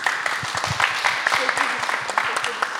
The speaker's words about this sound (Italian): Perfetto, grazie, un applauso.